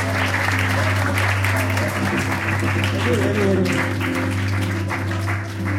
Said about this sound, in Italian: un applauso